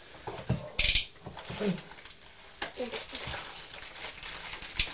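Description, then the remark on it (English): A few sharp, irregular clicks from a hard pasta shape, one bright burst early and scattered softer taps after, over faint background murmur and rustling. “You can play with it now, but just don't make lots of clicking noises, please.”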